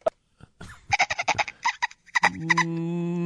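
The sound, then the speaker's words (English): A person mimics a cicada with their voice: a rapid run of clicking, chattering bursts gives way to a steady, buzzy, whistle-like drone, fairly loud, with a dolphin-like squeaky quality. “But I'll work on a cicada for 2024 when they come back. There you go.”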